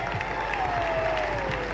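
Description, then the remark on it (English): A crowd applauds a man as he is introduced, a dense patter of many hands clapping at once, sustained and fairly loud throughout with a faint tonal whine running beneath. “Give him a round of applause, does all the stats.”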